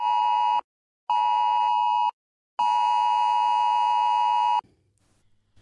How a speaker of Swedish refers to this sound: Från och med 1 juli är det här ljudet från mobilen en direkt varning för fara. Lyssna noga.